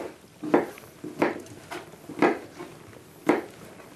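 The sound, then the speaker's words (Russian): A macaroni and apple salad being mixed by hand in a bowl: soft, moist squelching and rustling in irregular bursts about every half second to second, fairly quiet, with no talking. “Руками мы все это перемешиваем.”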